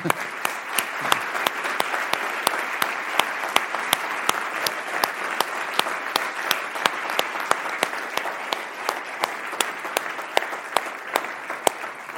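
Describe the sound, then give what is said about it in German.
Sustained audience applause for a speaker fills the whole stretch, a dense steady patter of many hands clapping at even loudness, with a few sharper individual claps standing out and no talking over it. “Auf jeden Fall denke ich, Sie haben einen herzlichen Applaus verdient.”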